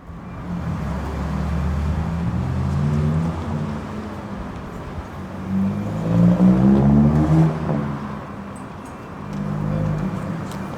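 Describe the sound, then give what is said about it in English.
Steady city traffic rumbles outdoors at night, heard from the steps of St. Paul's at about 10:30 p.m. on a Wednesday. Engines swell as vehicles pass over a low continuous roar of the roadway, and faint voices can be made out in the background. “So why are we sitting outside at 10:30 p.m. at an ungodly hour on the steps of St. Paul's?”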